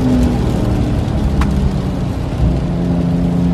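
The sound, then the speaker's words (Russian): A Porsche 911 Carrera S sports car engine rumbles loudly, a dense, steady low growl with slight rises in pitch as it revs, with no voices. “почему вы поголовно не на 911-х?”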